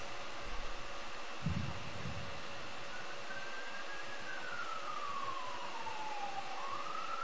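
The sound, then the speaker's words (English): A siren wails faintly in the second half, its pitch holding, sliding down, then climbing again over a steady background hiss, after a couple of dull low thumps near the start. “I hear sirens.”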